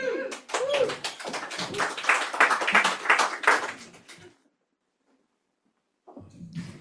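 A live audience claps after a haiku reading in a dense, steady burst of applause for about four seconds, then it stops abruptly. After a brief silence, a voice begins talking.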